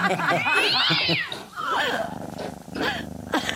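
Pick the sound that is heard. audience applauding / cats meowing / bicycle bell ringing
cats meowing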